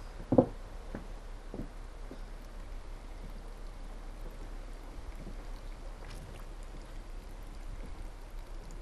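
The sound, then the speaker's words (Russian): Boiling water pours steadily into a jar of cucumbers, a continuous splashing hiss with a brief clink at the start and a few faint knocks, no voices. “Открываем и заливаем кипятком огурцы.”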